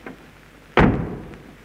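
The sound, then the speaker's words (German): The door of a lion cage at a zoo slams shut with one sudden, loud bang that rings out and fades over about a second, after a brief faint tap and near silence. “Muckfass, Kasperl, hinein und die Tür hinter dir zugeschlagen.”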